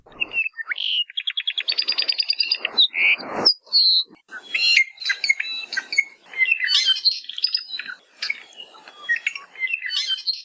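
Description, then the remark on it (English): An apapane, a crimson Hawaiian honeycreeper, sings clear: a quick stuttering trill opens into a continuous run of bright whistles, buzzy notes and chattering phrases, with no voices. “This is The Conversation on Hawaii Public Radio, and we now go to University of Hawaii at Hilo Professor Patrick Hart, who introduces us to a crimson honeycreeper in this week's Manu Minute.”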